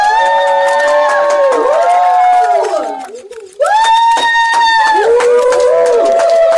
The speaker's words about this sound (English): Round of applause, ladies and gentlemen. Round of applause. That was beautiful. Sincerely, that was one of the best debates I've ever witnessed in my life.